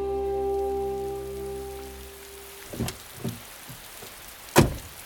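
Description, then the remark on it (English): Steady rain patters outdoors with a soft, even hiss on a cold, wet Tuesday evening at the entrance to a local vocational school, while a low engine hum fades out early on. A few sharp knocks follow, the loudest near the end, and no one speaks. “I tell you, I'm soaked already. I'm only after getting out of the car.”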